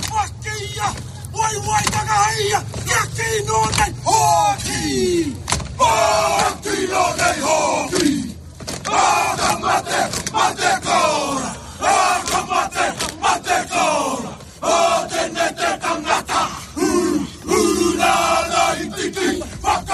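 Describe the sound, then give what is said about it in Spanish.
A group of men performs the Ka Mate haka war chant in Madrid, shouting in unison with rhythmic forceful calls, sharp bursts and stamping accents, loud and continuous over a murmuring crowd. “dirigió este Haka Kamate para Alucine de los presentes.”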